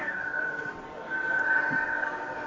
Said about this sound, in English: Fucking trains in Hoboken. That's not me.